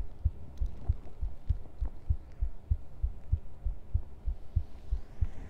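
heartbeat

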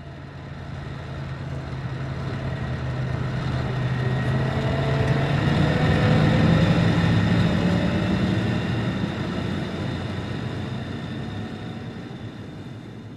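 car engine driving

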